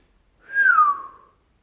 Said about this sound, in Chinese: 当听到口哨声的时候，应该把你的手放在你的骚逼上，给主人看。